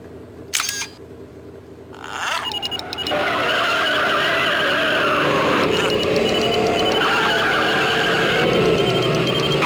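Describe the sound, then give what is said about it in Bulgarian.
A DeLorean car roars, accelerating hard into a loud, sustained tire skid with a squealing whine. A couple of sharp clicks come first, before the engine surges in. “Моята лична любима е един Делориан, който успява да пътува напред-назад във времето,”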